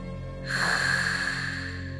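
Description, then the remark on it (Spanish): A single drawn-out breath passes through a narrowed throat, the epiglottis half closed, with a soft, steady S-like hiss of air rubbing the throat, starting after a short pause and continuing moderately loud to the end. “Entrecierra esta solapa y siente y escucha el roce del aire pasando por tu garganta, realizando un sonido parecido a una S.”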